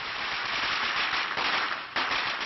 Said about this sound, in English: That much is clear from the firecrackers celebrating his father's death.